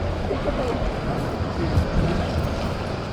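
train station ambience

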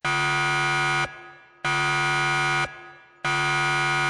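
alarm buzzer sound effect

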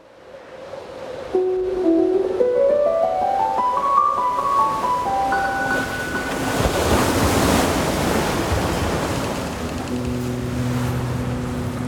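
ocean waves and surf

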